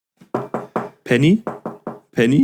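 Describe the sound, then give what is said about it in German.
A voice imitates knocking: three short, clipped knock sounds, then a longer drawn-out call, then three more knocks and another call. The pattern repeats clearly. “du läufst und dann klopfst du irgendwo gegen oder so, sowas.”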